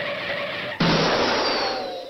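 A classic Mac OS crash chime used on the Power Mac 6100 and 7100 that mimics a car crash: a sustained screeching tone, then an abrupt, loud smashing burst that rings and slowly fades. It is played alone, with no talking.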